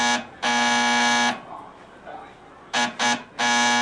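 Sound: doorbell buzzer ringing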